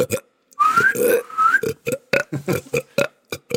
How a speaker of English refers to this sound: I've just been burping for 8 seconds.